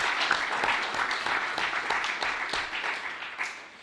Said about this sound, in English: So I want to give everyone give themselves a round of applause for that victory.